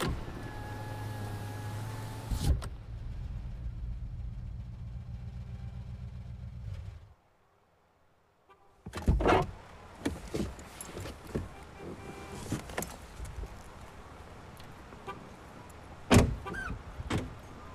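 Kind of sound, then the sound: vehicle, car stopping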